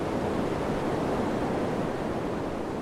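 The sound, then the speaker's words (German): Waves rolling powerfully onto the open, flat coast at Salve in Apulia, Italy, heard as a steady, fairly loud roar of surf that washes on without distinct breaks. No voices are present. “Die Wellen rollen kraftvoll an die offene, flache Küste”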